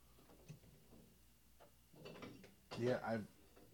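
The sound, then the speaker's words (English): An unopened bottle of Frisane Brut champagne, chilled for a couple of years, is pulled from a wine fridge: faint handling clicks, then a louder sliding rattle of a rack with bright glassy clinks near the end. No one speaks. “I've got a wine fridge right next to me.”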